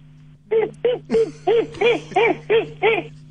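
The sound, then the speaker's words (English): A person imitates a monkey with a quick run of eight rhythmic, rising-and-falling hoots, fairly loud, over a steady low background hum. “Can you make a like a monkey sound?”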